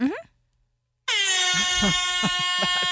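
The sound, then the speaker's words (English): A loud, sustained air horn sound effect cuts in after a brief rising tone and a moment of silence, droning steadily as it is held down while voices talk and laugh underneath it. “Why is there a bullhorn? It's an air horn.”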